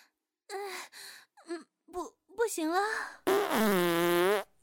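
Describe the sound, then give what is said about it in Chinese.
A few short breathy vocal sounds, then a loud, drawn-out fart that rumbles for about a second before cutting off, let out in front of others while bent forward with hands on knees, after a breakfast of curry rice. “好丢脸呀，在大家面前放了个又响又臭的屁呢。”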